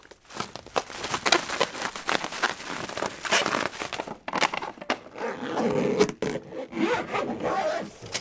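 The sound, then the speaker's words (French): Rustling and rummaging as Ina packs her suitcase before leaving, with quick scratchy zipper pulls running back and forth for several seconds. Nobody speaks. “Avant de partir, Ina fait sa valise.”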